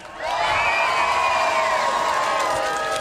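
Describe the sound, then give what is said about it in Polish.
A large crowd in Poddębice, Poland, at the first stop of Polish Radio's Lato z Radiem tour cheers and shouts continuously, high excited voices and whoops blending into a loud, sustained roar that rises quickly and holds steady for a few seconds. “Prawdziwy tłum, proszę państwa, Poddębice.”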